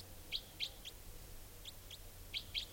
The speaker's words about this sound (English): And this type 4 female is calling here. Wild bird.